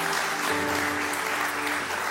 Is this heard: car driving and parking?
no